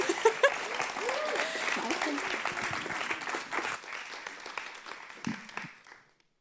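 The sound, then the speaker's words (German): A crowd at a church service applauds with dense, steady clapping that holds for several seconds, with some voices mixed in, then thins out and fades away near the end. “Ein Applaus für dich.”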